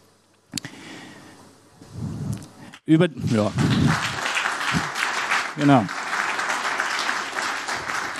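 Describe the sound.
An audience breaks into steady applause, a dense wash of clapping that carries on for several seconds while a voice speaks briefly over it.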